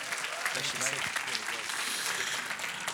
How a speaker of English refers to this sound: Let's give him a massive round of applause.